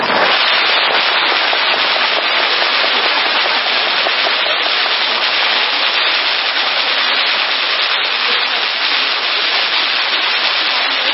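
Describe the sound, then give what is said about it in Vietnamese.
A long, unbroken string of firecrackers set off to welcome the New Year rattles off in a dense, rapid crackle, loud and steady for the whole stretch with no pauses and no voices. “Thôi bây giờ chúng ta cùng vỗ tay đón mừng năm mới hòa lẫn với tiếng pháo của ngày đầu xuân.”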